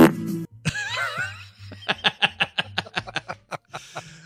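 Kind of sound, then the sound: sound effect, fart sound effect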